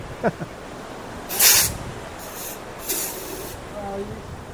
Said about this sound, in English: Fire extinguisher. Very exciting. I guess you have to do that for even a cigarette, huh?